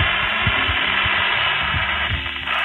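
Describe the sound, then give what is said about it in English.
Dense, steady radio static hisses and crackles for a few seconds, band-limited and fairly loud, with faint low pulsing beneath the noise and no voices. “Sometimes you get a lot of static.”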